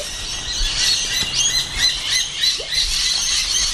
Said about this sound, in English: It's pretty amazing. I've got this, these wood pigeons. You don't normally expect a wild bird to be near you